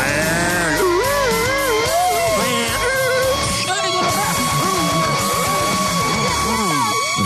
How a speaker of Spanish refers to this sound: Pendiente a la patrulla radioactiva que estará rondando por las calles de la ciudad. Efecto de patrulla.